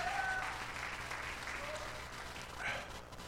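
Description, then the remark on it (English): An audience gives the Lord a hand clap together in a steady, dense wash of applause, with a few faint voices and whistle-like tones rising above it before the clapping tapers slightly. “Come on, somebody give the Lord a hand clap if you believe that in this place.”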